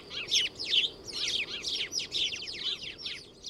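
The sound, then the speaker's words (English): House sparrows chirping in a busy, continuous chorus of short, bright repeated chirps, with no pauses and a low background hum underneath. “House sparrows get the benefits of food and shelter from us, and they don't really bother us all that much.”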